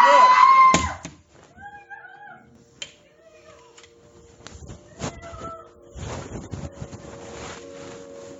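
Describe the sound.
A loud yelling voice cuts off early, followed by a sliding door rolling shut with a dull knock, then faint, muffled cries and rustling noise in the background.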